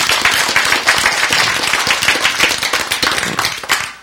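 An audience breaks into sustained applause, dense overlapping hand claps crackling steadily and loudly for the full four seconds with no voices heard over them.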